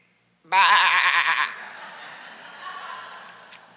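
A single loud, wavering sheep bleat rises abruptly and lasts about a second, then fades into a quieter, noisy trailing sound.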